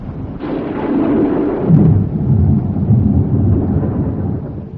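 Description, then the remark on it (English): A thunderstorm rumbles, deep rolling thunder swelling and lingering over a steady hiss of heavy rain, loud and continuous with no voices. “How can you go out like this? The storm, the rain.”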